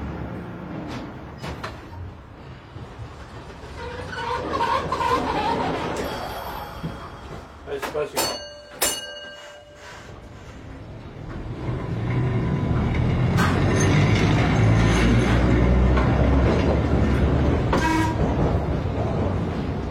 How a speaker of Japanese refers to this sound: 長崎の町、明治生まれの路面電車が走り抜けていきます。